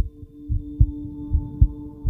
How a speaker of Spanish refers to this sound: Te sientes tan cómodo y en eso puedes escuchar los latidos de su corazón.